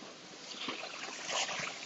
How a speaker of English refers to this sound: First podcast I've done walking. I hope the noise of the cars driving past hasn't been too distracting.